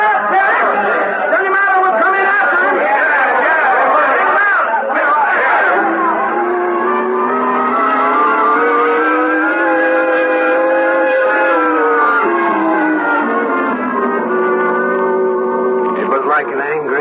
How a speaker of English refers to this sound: Rising, falling, the shouting and muttering of the crowd milling around outside the jail in Weatherby, Arizona.